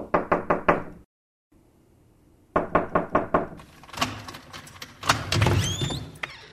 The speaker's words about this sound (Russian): В дверь постучали.